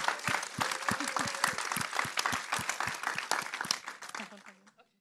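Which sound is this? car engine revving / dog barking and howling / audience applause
audience applause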